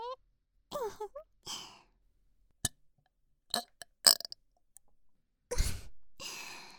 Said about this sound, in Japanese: ゲップされるたびにおちんちんしこしこ乱暴になって、頭バカになる。